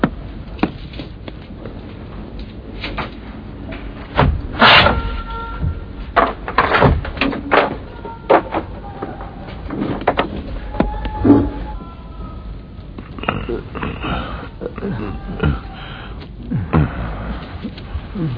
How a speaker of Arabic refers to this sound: من هنا يا مولاي، إنهم هنا. افتح الباب.